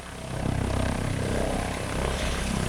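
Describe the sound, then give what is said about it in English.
A Yorkshire Air Ambulance helicopter flies past with a steady, loud engine drone over rapid, rhythmic low rotor thumping, swelling up in the first half second and holding steady, with no voices. “2025 marks 25 years of Yorkshire Air Ambulance flying helicopters and saving lives across the region.”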